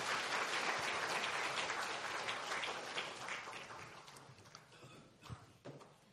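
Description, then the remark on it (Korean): A crowd at a church graduation ceremony at Isaac Church (Presbyterian Church in Korea) claps steadily to welcome a graduate receiving a diploma, a dense wash of applause that starts full and gradually thins out, with a few scattered louder claps near the end as it fades. “우리 박수로 환영해 주겠습니다.”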